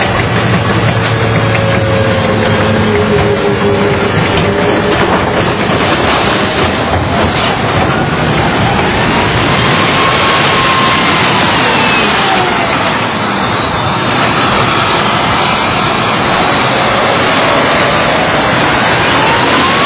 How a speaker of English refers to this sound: We filmed these GIs after they caught a group of Iraqis stealing wood. We try to stop them from looting, they don't understand, so we'll take their car and we'll crush it.